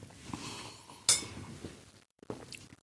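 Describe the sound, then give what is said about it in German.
Soft, wet lip smacks and mouth clicks while tasting a turquoise-green, mint-flavoured water drink, scattered irregularly with one sharper, brighter click, then a brief silence and a few more quiet smacks. No one speaks. “Ich muss hier kurz ein bisschen rumschmatzen.”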